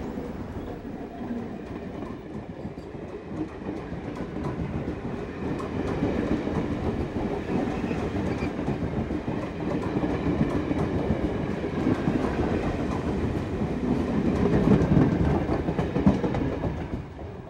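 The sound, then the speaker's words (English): An electric commuter train in Bombay rumbles steadily along railway tracks, its wheels clattering in a continuous rhythm that swells slightly louder toward the end as it passes. The trains run every 2 minutes to Churchgate or VT. “They're all electrified, a train every 2 minutes to Churchgate or VT.”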